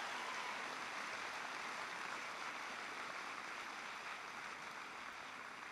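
Steady applause from an audience fills the whole stretch, a dense, even patter of many hands clapping at once with no voices over it, holding at a fairly constant, moderate level throughout.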